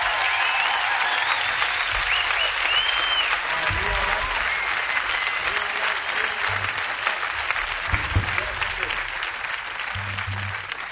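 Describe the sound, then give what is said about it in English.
Sustained audience applause for a young woman musician who has just played, a dense wash of clapping hands that stays steady and fairly loud throughout, with a few faint murmurs underneath. “So please give a nice round of applause for”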